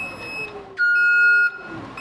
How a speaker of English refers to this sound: Beeps, bells, and sirens are common sounds around the Seagrid headquarters in Coriopolis. This is where hundreds of self-driving industrial trucks get assembled and programmed before they're shipped to warehouses nationwide.